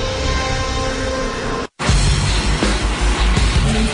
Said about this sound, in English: It's after 4:30 when the trucks finally head out.